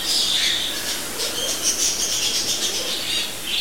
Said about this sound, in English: These are tropical birds.